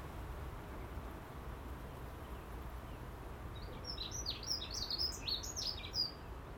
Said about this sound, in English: On the positive side, it's dry. Gonna have birdsong.